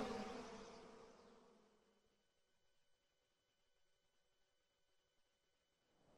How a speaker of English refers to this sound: Bees, they're everywhere. Looks like you got yourself a swarm.